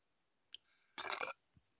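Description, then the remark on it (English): A single loud, rough burp lasting about a third of a second, with a few faint clicks and breathy noises before and after, otherwise quiet. “Nice burp.”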